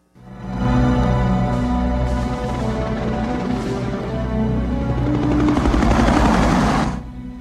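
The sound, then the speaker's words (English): Loud, steady rotor thumping of Navy recovery and rescue helicopters circling overhead, waiting for first radar contact of a re-entering ship. A continuous deep chop with whining engine noise that swells slightly before cutting off abruptly near the end. “The Navy recovery and rescue helicopters already airborne, circling, waiting for first radar contact.”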